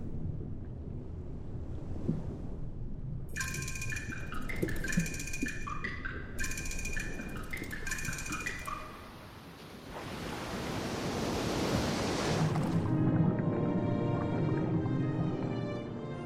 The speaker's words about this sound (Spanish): Los océanos son enormes depósitos de agua, pero no son lugares plácidos y tranquilos. Su interior está recorrido por fortísimas corrientes que transcurren a lo largo de miles de kilómetros y su superficie es batida por vientos y oleajes.